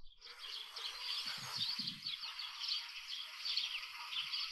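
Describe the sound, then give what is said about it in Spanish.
Storks clattering their bills, a dense, rapid wooden rattling that runs steadily throughout with a few low thumps early on, with no voices. “Mira, aquí te va el crotoreo de las cigüeñas.”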